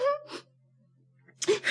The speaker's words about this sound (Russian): Я всегда плачу, когда доходит до этого места.